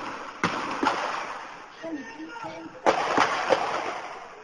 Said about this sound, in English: We're hearing the sound of gunfire being exchanged in Watertown, Massachusetts. During that shootout, one of the suspects was shot and later died at a hospital.